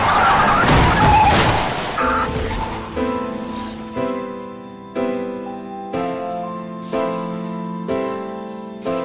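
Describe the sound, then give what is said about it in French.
From the TV series House, House drives a car into Cuddy's apartment: a loud, harsh burst of crashing and grinding car noise fills the first couple of seconds, then gives way to a series of ringing tonal stabs repeating about once a second. “Séparé de Cuddy, sous l'influence d'un médicament expérimental censé le guérir de son mal, House a franchi toutes les limites et, en voiture, il ravage l'appartement de Cuddy.”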